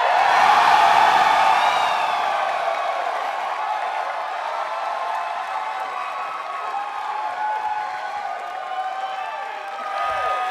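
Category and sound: crowd, audience screaming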